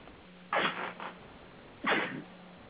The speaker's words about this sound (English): Excuse me. Attack of the sneezes here.